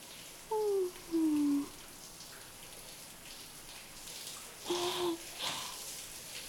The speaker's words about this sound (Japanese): シャワーで汗を流すのは気持ちいいですね。